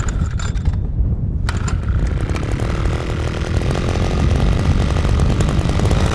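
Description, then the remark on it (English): A small two-stroke engine roars steadily and loudly as a green metal motorized ice auger drills a hole through about 3 feet of frozen water, with a brief dip in its pitch early before it grinds on without any voices. “Jesse fires up his green metal ice auger to slice a hole through the frozen water.”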